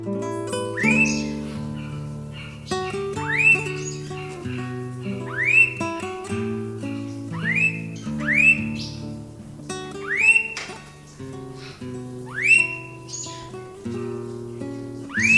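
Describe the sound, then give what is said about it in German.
A blue-faced honeyeater gives about seven loud, upward-sweeping whistled calls at a steady pace, roughly every two seconds, over a low, sustained tonal background. “Das war der Blauohr-Honigfresser.”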